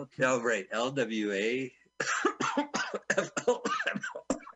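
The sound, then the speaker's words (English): A deliberate, exaggerated cough: a drawn-out voiced rasp, a brief pause, then a quick run of sharp, breathy hacking bursts, loud and alone with no other talk. “You didn't even do the cough.”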